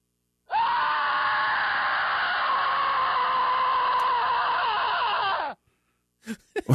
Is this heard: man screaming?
yes